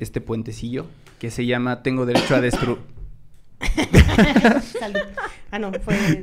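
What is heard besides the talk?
cough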